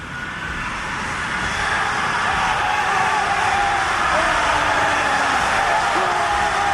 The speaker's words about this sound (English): Okay, here's what I did. I layered 100 death whistles on top of each other, and I pulled in some ambient sound so we can kind of get an idea of what this would have sounded like.